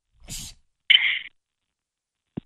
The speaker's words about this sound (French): Oui, je suis en train d'éternuer. Alors, j'espère que je n'ai pas attrapé la crève, hein, parce qu'ici, tout le monde est malade.